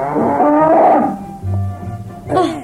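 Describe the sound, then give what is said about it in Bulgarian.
A reddish-and-white spotted cow with a black muzzle moos loudly, a long drawn-out bellow that slides into a low groaning tone, followed by a shorter, rougher call. “Матя, не се разсейвай с кравата.”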